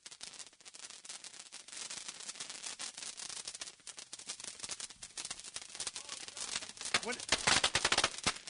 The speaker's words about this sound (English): Now guys are just throwing lit fireworks into the big, gigantic gathering of fireworks that have already been lit.